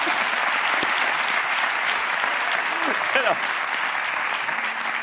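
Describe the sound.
Steady, loud applause from an audience fills the whole stretch, a dense wash of clapping with faint voices and a few brief vocal calls rising through it.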